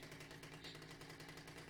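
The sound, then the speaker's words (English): A steady, harsh mechanical buzz like a chainsaw runs throughout, with a low droning hum and rapid rattling pulses at a constant level, and no voices. “It sounds like a chainsaw or something.”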